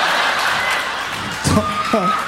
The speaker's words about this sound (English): I appreciate it, but I was trying to think of the next line. I'm like, all I hear is clapping.